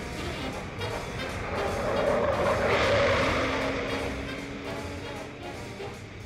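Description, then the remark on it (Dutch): A car races past at speed, overtaking before a railway crossing, its engine roar swelling to a peak midway and then fading, while tires squeal in a sustained high whine over the rushing noise. “Dan moeten ze voor de spoorwegovergang inhalen.”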